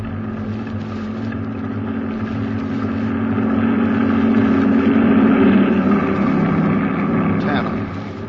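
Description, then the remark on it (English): A heavy convoy truck engine drones steadily, growing louder as it approaches and rolls past, its low rumble swelling midway and then easing off slightly toward the end. “They'd stop to investigate the sudden appearance of a truck at the end of the convoy.”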